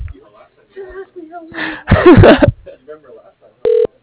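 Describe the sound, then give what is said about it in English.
A phone line on an outgoing call gives one short, loud electronic ring tone near the end, after a stretch of muffled vocal sounds and a brief burst of rustling noise. “It's ringing.”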